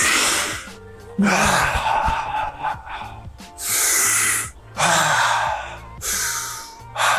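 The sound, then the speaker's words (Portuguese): Slow, deep breathing exercise done together with body movement: long, loud, airy inhales and exhales follow one another in a steady rhythm, with brief pauses between breaths and no talking. “E três respirações dessa com algum movimento já basta para te colocar no eixo.”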